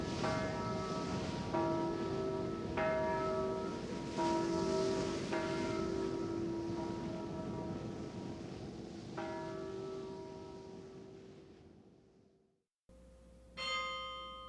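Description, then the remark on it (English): The church bells of Dordrecht chime in a rich, ringing peal, several strikes overlapping and sustaining with long resonant tails, then fading away before a brief new bell tone starts at the end. “The Chimes of Dordrecht.”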